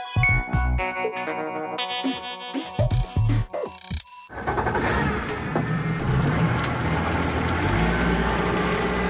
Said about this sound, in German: Wie eine glatte Plastikfolie sieht der Xingu so früh am Morgen aus. Kein anderes Boot ist auf dem Fluss unterwegs, als das Schnellboot Fahrt aufnimmt.